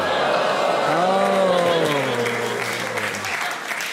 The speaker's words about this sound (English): No, the audience is divided. Some of them were clapping.